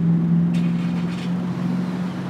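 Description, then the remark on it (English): A steady, low engine hum drones throughout from a line of about 30 to 40 cars idling while waiting for gas at a gas station, with a few faint hissy bursts early on and no voices. “30, 40 cars long.”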